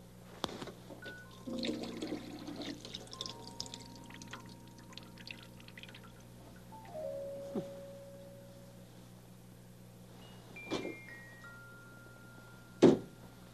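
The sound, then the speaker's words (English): Water splashes and gurgles in a sink basin with a clogged drain that isn't draining, with scattered drips and hollow plinks, a few soft knocks, and one sharp clack near the end; no one speaks. “That water's not going down at all.”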